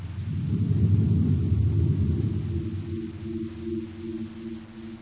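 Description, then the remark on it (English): The deep, heavy engine roar of Baccarati's spaceship swells loudly, then slowly fades as it pulls away toward the northeast, leaving a lingering low droning hum. No voices. “As Baccarati's ship roars away toward the northeast”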